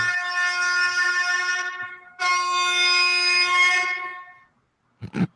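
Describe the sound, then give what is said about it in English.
A car horn honks twice in traffic at drivers trying to make an illegal left-hand turn, in long, loud, steady blasts, the second slightly longer, with a short pause between, followed by a brief thump at the end. No voices. “That's my horn. That's the 615 honk, because everybody tries to make an illegal left-hand turn and turns every damn street around here into a cesspool of traffic.”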